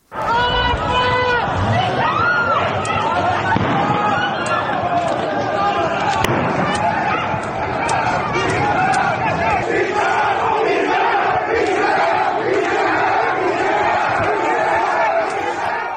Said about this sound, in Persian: شهروند روزنامه‌نگاران تصاویری از تجمع امروز معترضان در شهر کرد نیز منتشر کردند. این تصاویر نشان می‌دهد معترضان شعارهای علیه علی خامنه‌ای سر می‌دهند.